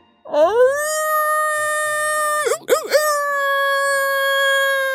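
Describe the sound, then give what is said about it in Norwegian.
A human voice imitates a wolf howl, the loudest it can muster: one loud, long wail that swoops up at the start, holds a steady pitch, wavers twice in quick dips midway, then carries on to the end. “Og så satte Ulvar i det høyeste ulet han kunne mønstre.”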